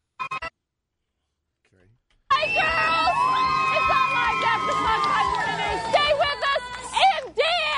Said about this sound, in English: Wow, God, I got to hear the end of that one again. Hold on, here's the end of it. She's shrieking.